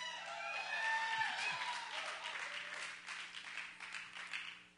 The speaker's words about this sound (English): Everybody clap but her.